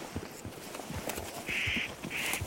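spotted nutcracker calling

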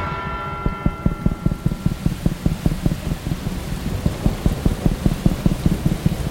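heavy rain with thunder

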